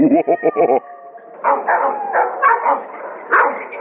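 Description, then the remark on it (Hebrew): An American Staffordshire terrier that has just woken up lets out a quick burst of four or five sharp barks, then slides into a drawn-out, wavering whine-howl that rises and falls. “תשמע איזה נביחות, הוא נשמע חיה, נשמע מסוכן מאוד.”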